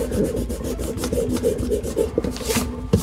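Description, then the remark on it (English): A fresh eraser scrubs back and forth across paper in a Manhattan apartment in quick, steady strokes, a dry rasping rub that keeps a fast rhythm for about three seconds with no voices. “Lucky I have a fresh eraser here.”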